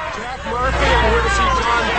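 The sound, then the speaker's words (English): A dense crowd of protesters murmurs all at once around a Ford SUV at a prison gate, many overlapping voices blending into a steady, fairly loud hubbub with a low rumble underneath and no single speaker standing out. “They crowd around the car.”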